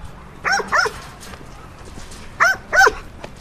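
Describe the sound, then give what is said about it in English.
A working farm dog barks in two quick pairs, four sharp barks with a pause between the pairs, clear with no one talking. “as you can hear, I'm talking about a farmer's right-hand man”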